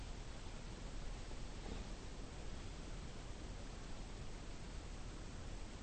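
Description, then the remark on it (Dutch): A steady, faint roar of ocean surf with wind, a continuous wash of breaking waves with no distinct swells or voices. “De wind en de branding.”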